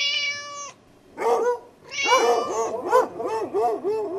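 A cat meows over and over, starting with a long steady high cry, then a quick call and a rapid run of short, rising-and-falling meows that waver in pitch.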